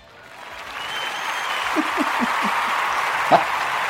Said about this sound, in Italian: Adesso, allora, adesso la dico e poi facciamo partire l'applauso.